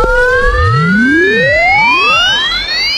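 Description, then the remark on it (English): A loud, constant electronic neglect alarm from a toy virtual pet screeches, its shrill tones sweeping up and down in overlapping siren-like glides for the full length, with no voices. “And if you neglect your virtual pet, you'll be punished with a constant high-pitched screech of pain.”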